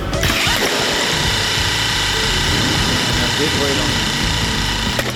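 A very small pump supplies air to an air-powered hammer, pulsed by a computer, producing a loud, steady mechanical hiss and whir with a rough, low rumbling undertone that continues unbroken for about five seconds.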